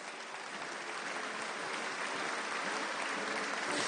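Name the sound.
audience round of applause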